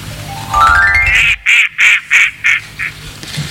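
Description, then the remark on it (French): A rising, whistle-like tone sweeps upward, then a duck quacks five times in a quick, even rhythm, loud, followed by one fainter quack. “Mais on va tout de suite passer au coin-coin.”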